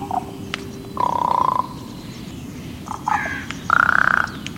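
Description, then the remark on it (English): A raven gives a few hoarse, croaking calls, loud bursts spaced unevenly with brief pauses, over a steady low rumbling background with no one speaking. “Today, ravens are the fascinating subjects of scientific study.”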